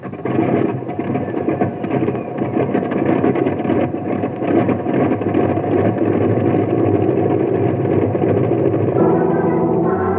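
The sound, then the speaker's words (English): A loud, steady airplane engine drones continuously with a rough, throbbing hum as the plane carries an injured man on its way to a hospital. A few tonal harmonics rise out of the roar near the end. No voices are heard. “Now, you fellas look after the injured man, and I'll get the plane on its way to a hospital.”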